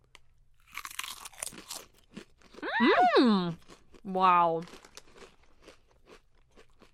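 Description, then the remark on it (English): Sharp, crisp crunching of very flat Mackey's potato chips, looking like real potato slices, in a short flurry of bites, then a drawn-out appreciative hum and an exclamation from a person chewing. “Okay, these are the flattest chips I've ever seen.”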